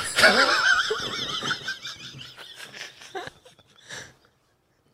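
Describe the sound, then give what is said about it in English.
A person loudly imitates the heavy, wheezing breathing of someone out of breath from a big bowel movement, starting with a strained, wavering voiced gasp that breaks into shorter breathy puffs and fades out near the end. “You ever shit so much you start breathing hard?”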